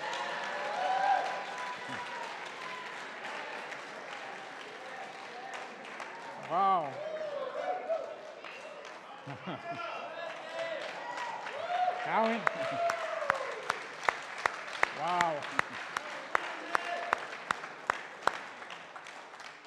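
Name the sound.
rain falling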